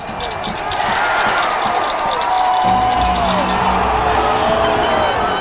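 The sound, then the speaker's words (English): A loud, dense roar of Panthers fans in a stadium during the 49ers' last drive of the first half fills the whole stretch, with screaming, whoops and a sustained rumble, joined partway through by low rhythmic banging of seats and rattling of coins shaken in bottles. “The Panthers had just taken a 10-6 lead, and the fans were screaming, banging their seats, putting coins in bottles and shaking them.”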